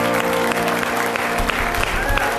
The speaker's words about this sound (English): And what we've just done has answered Psalms 47. Come everyone, clap your hands, shout to God with joyful praise.